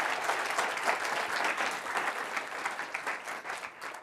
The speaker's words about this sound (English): Okay, so now with that, you can give the applause.